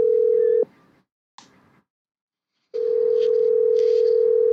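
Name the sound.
telephone ringing tone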